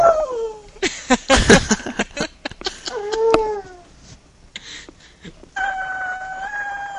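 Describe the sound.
A human voice imitates a yowling, injured cat with drawn-out, wavering wails that bend up and down in pitch, broken by clattery noises, then a steadier howl at the end.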